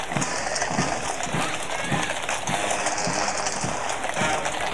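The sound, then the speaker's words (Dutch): Horses of the Dutch mounted national police (Rijkspolitie) clip-clop in a steady, even rhythm, a dense procession of hoofbeats over a continuous wash of crowd and outdoor noise. “En hier ziet u dan de Rijkspolitie te paard.”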